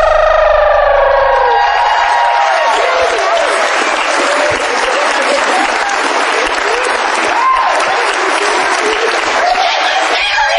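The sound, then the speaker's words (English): A crowd at a live show at TAM 7 breaks into sustained, loud applause for a newly married couple, with dense clapping throughout, while a fading tonal chord rings out at the start beneath the noise. “How about a nice round of applause for Mr.”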